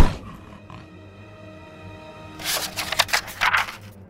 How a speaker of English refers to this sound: The better to eat you with, the wolf growled.